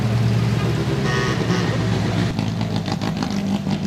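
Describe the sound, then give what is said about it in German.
A vintage car's engine rumbles steadily as it opens the autumn fair in Rafts, with a low throaty hum and some rattling mechanical noise, continuous for the whole stretch with no voices. “Der Startschuss von der Herbstmesse in Rafts ist mit einem Oldtimer-Auto gar so gefallen.”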